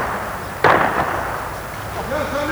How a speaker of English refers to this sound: The sound of gunfire echoes across Vlora with ominous regularity